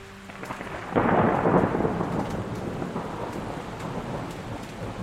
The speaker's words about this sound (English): Seemed like it was always raining on Polyphin, which honestly I didn't mind. Rain slicks the metal walkways of Hakame Prefecture on Polyphin, pooling in the cracks of plasteel and rusted grates.